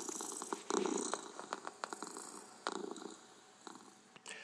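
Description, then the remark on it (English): Miss Creamy, a cat, purrs in a steady, rumbling rhythm, the soft vibrating breaths repeating throughout with no talking, fairly quiet but clear. “As you can see, for Miss Creamy, purring is the answer to everything, since she lives a worry-free life.”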